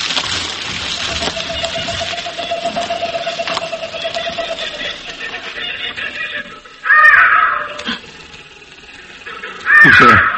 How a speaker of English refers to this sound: Steady, Peter Cohen, those are only birds.